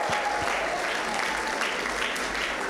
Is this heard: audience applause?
yes